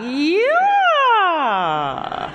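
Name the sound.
voice imitating a siren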